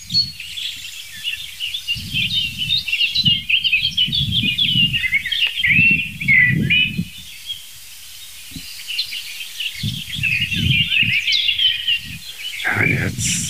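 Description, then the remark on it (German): Short, scolding song thrush calls sound amid a busy, continuous chorus of chirping birds, steady, with intermittent low rumbling bursts underneath, on a windy day. “Es gab jetzt ein paar, ich würde mal sagen, Warnrufe kann man die noch nicht mal nennen. Ein paar Schimpfer von der Singdrossel.”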